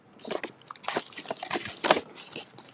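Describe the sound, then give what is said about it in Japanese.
Crisp rustling and crackling of a stiff cardboard Letter Pack Light mailing envelope being handled, with a series of irregular scrapes and crinkles over a few seconds and one sharper crunch near the end. “送れる、厚紙の郵送袋、厚紙郵送袋ないですわないですわじゃないんですね。”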